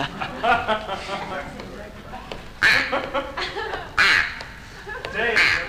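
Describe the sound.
Nasal, buzzy quacks blown on a duck call played as an instrument in a musical number, in several loud bursts of honking notes spaced a second or so apart, with people's voices murmuring and talking underneath.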